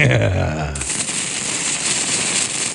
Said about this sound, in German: Die Feuerwerksrakete. Jawohl. Und sie ist genau auf Zwacks Stand ausgerichtet.